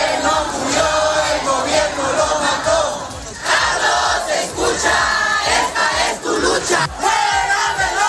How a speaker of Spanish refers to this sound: Los manifestantes están responsabilizando, como oyes, a Sheinbaum directamente de la ola de asesinatos perpetrados por el crimen organizado que tiene cada vez más poder sobre la política en México.